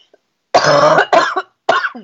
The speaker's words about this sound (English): I'm really sorry that I keep coughing. I don't care. The listeners might care, but if they do, they're jerks. I feel fine, but I have this cough now, so I'm just like getting everything out.